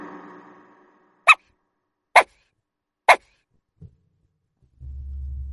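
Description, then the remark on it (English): Three short, sharp dog barks ring out one after another at an even pace, loud, with no talking around them and a low hum creeping in at the end. “D for dog.”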